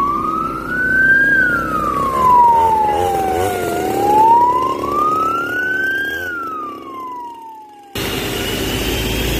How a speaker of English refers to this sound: The sounds of a large power truck with 10,000 liters of water capacity. It has components to accommodate about 500 liters of a foam compound used for fighting certain kinds of fire disasters.